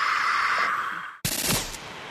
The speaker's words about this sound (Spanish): Este aparatito convierte a tu celular en un detector de murciélagos. Tiene un micrófono ultrasónico que te ayuda en la pantalla a ver y en las bocinas a escuchar cómo están gritando los murciélagos. Son tantos que lo único que oímos aquí es...